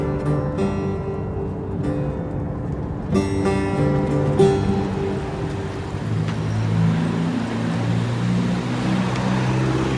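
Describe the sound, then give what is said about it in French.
Steady road traffic in Iran, with many Peugeot cars among the vehicles. Engines drone and shift in pitch as the vehicles move along, a continuous rumble and whir with no one talking. “Ce qui est étonnant ici, c'est le nombre de voitures Peugeot que l'on croise sur les routes.”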